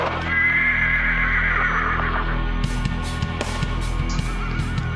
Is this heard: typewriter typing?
no